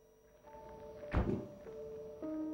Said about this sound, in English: Vera shows a document to Patricia, who goes over to the window when she hears a car door slam. She sees Joe get out of his car with Adam.